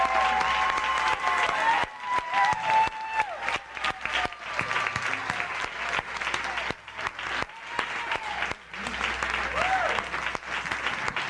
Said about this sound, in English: Saints, give your leaders a hand clap. Give it to them.